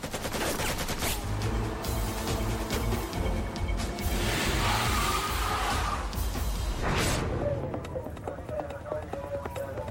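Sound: gunfire shots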